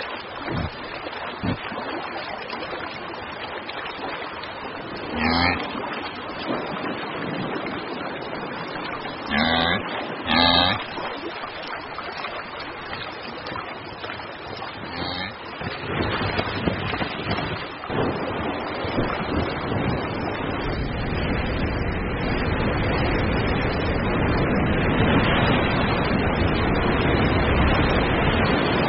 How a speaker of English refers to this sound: The Yellowstone River has increased its flow tenfold.